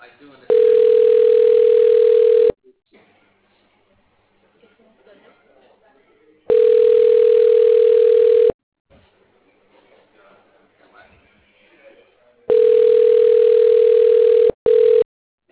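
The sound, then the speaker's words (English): A telephone ringback tone sounds while a call connects: three loud, steady two-second rings separated by roughly four-second pauses, with faint background murmur in the gaps. “You will hear ringing while your call connects.”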